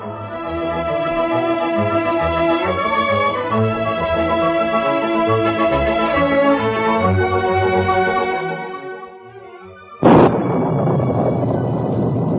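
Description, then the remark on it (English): Orchestral music plays for about ten seconds, then a sudden, loud crack of thunder bursts in and gives way to a steady roar like a heavy downpour. Thunder echoes from the hills during a heavy spring storm with lightning and torrential rain in the Yukon, past midnight. “Lightning split the heavens and thunder echoed from the hills.”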